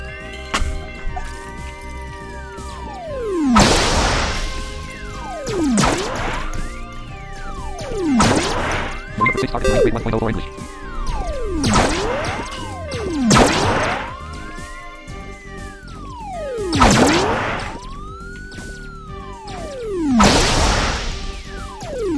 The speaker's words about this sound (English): See, I like smashing through the wall, but I hate that all these things are way up there.